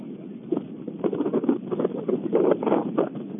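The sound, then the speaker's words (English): Gusting wind, a heavy breeze during a ball game, buffets steadily, a low, rumbling roar that swells and eases in uneven surges over a few seconds, with no voices heard. “That heavy breeze continues to gust.”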